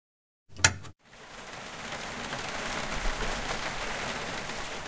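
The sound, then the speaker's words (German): A short sharp burst breaks the silence, then steady rain sets in, a dense continuous patter with no voices, holding at an even, moderate level to the end. “Dieser Regen. Tropf, tropf, tropf, tropf.”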